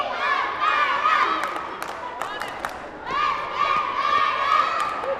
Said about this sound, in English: It's halftime. The squad spills out onto the court to cheer.